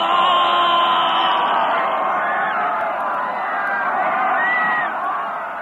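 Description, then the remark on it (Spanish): A large crowd of Aztecs, led by Cuauhtémoc in revolt against the Spaniards, shouts and roars together in a sustained, loud wall of voices, with rising and falling yells of a massed war cry throughout. “Su grito de guerra se propagó en todo el imperio.”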